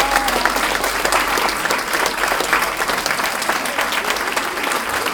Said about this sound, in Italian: Oh, non abbiamo mai avuto tanti sindaci donne come in questa ultima tornata, insomma, è veramente, questo è molto bello ragazzi, cioè è un grosso passo avanti. Un bello applauso alle sindaci donne del nostro territorio.